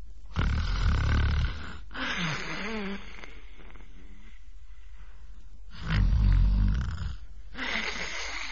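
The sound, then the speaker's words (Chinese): A performer imitates the loud, rumbling snoring of the character Lu Zhishen sleeping soundly at night: two heavy, growling snores several seconds apart, with a softer, wheezing exhale trailing between them. “这呼噜稀如撼天雷，呼如涨潮水。”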